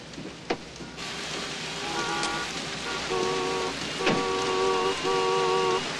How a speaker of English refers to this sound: He gets out of the cab into the torrential rain.